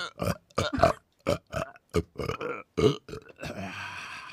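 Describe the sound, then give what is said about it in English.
A long, loud burp made on cue by an actor, broken into a rapid series of croaking, gurgling pulses that stretch on for several seconds before ending in a raspy, sustained exhale. “Most spectacular burp I've witnessed in a long time.”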